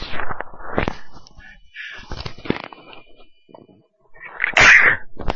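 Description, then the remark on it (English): A single sharp, loud sneeze bursts out near the end, preceded by a few seconds of soft breathy rustling and a brief quiet pause. “I knew I had a sneeze coming on.”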